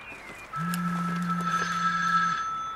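A mobile phone rings while its owner cycles along a lane flanked by hedgerows, a steady electronic tone that starts abruptly, holds for about two seconds at a moderate volume, then stops, with no talking and faint background hiss.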